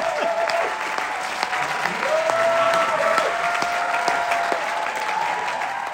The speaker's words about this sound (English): That applause you're hearing isn't what happened at the end of the show. That was the applause that I was talking about as the lights went down, and that carried on for a glorious 150 seconds.